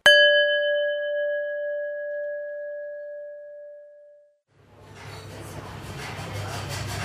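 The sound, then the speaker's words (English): A single bell chime, a cue to press pause, strikes sharply and rings out with a clear, sustained tone for several seconds before fading to silence, followed by a broad, noisy rumble of background sound. “Now press pause when you hear the bell, and when you are ready, press play again”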